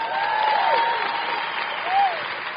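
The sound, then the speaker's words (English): A church audience applauds the speaker's wife, steady dense clapping filling the whole stretch at a fairly loud, even level, with a few voices calling out faintly over it. “Give her a hand clap.”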